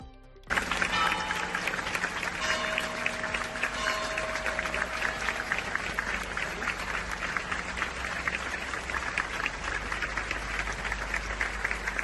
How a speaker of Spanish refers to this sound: una interminable ovación a la llegada del féretro a la iglesia de la Magdalena.